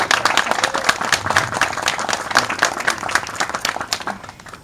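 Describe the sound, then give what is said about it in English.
An audience applauds to honor a woman for her activism in the community, with dense, rapid clapping that stays steady and fairly loud for several seconds before thinning out slightly at the end. “give her a round of applause for her tremendous and activism in the community.”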